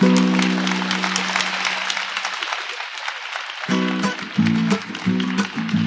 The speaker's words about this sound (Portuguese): Agradeço os aplausos, o incentivo, o calor, o carinho de vocês para com a gente.